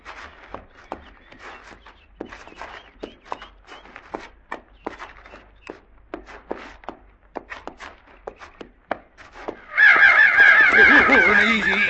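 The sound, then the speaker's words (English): Steady footsteps crunch along for several seconds, then a loud, dense chorus of big crows suddenly erupts, many harsh caws overlapping continuously until the end. “They're sure big for crows.”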